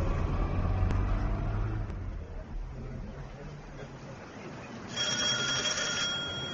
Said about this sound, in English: Thank you for opening the car door for me.